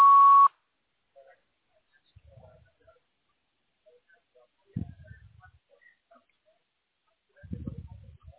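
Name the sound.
voicemail recording beep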